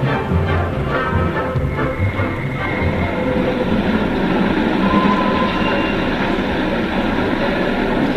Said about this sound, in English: Are you sure this is the Marlow train? Yes, of course it is.